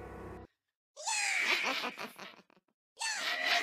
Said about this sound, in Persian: شنیدین؟ انگار که ترکیبی از صدای خنده و گریه و چند صدای دیگه رو داریم میشنویم. پس میشه نتیجه گرفت که وسک ها ارواحی هستند که توسط یه اووکر به یه روح تبدیل میشن و آماده حمله به ما میشن.